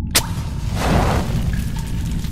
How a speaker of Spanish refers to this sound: El ruido de un cerillo tallándose contra el papel de lija en la caja.